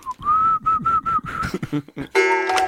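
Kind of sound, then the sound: human body sound, person whistling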